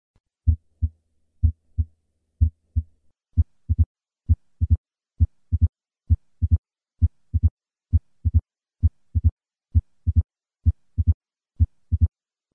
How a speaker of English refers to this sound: This opening snap is secondary to the thickened mitral valve and occurs at the apex very soon after the second heart sound. I will begin with 3 normal beats and then add the opening snap.